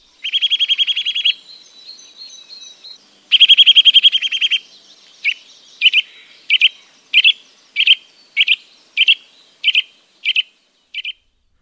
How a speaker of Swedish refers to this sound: Och nötveckan.